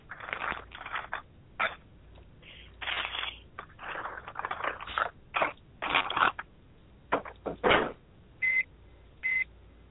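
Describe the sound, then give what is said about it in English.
A microwave oven in a kitchen runs with a low steady hum beneath irregular crunchy, rustling kitchen noises while dinner is being cooked, then gives two short high-pitched beeps near the end. No one speaks. “I hear a microwave.”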